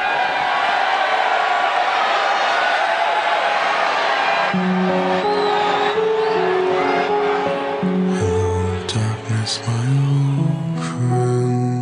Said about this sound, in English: Well, the funny thing was, you bring back Daniel Bryan, and there was the initial pop when he came out, but ultimately, that crowd really calmed down fast,